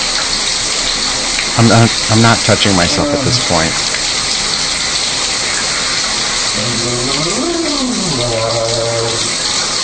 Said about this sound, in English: So, okay, I'm going to rinse the conditioner out now. So, that feels so good. I love the way the water feels.